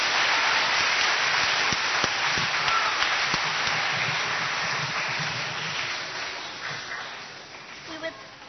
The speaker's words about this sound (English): So, and this is our last song. And isn't it amazing? In 1 week, we've written 4 songs. These songs are brand new. So give all these young folks and teachers a round of applause.